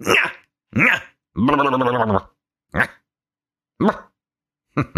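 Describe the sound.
A person loudly imitates a barking dog, giving several sharp, separate yaps and one longer growling, strained bark, with pauses between them and no talking.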